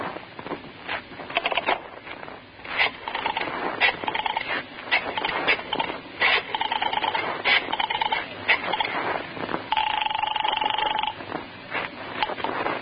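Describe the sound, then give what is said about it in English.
A telephone being dialed, with bursts of rapid clicking, followed by a steady ringing tone on the line. Moderately loud, with no talking. “Can I use your phone?”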